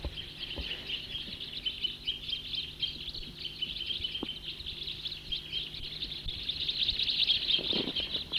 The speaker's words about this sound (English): Big flock, about 20 birds there, back to the troopers.